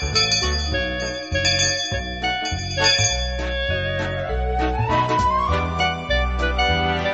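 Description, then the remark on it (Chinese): A bright, chiming bell melody plays steadily over a pulsing low bass line, like a short musical jingle marking the start of class, lasting several seconds with no voices. “每当听到铃声的时候，我相信听众朋友你已经把笔跟纸预备好了。”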